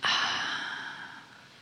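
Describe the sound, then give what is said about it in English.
A single deep, airy breath taken at the start of a guided meditation, starting abruptly and slowly fading out over about a second and a half, with no talking. “Take a breath.”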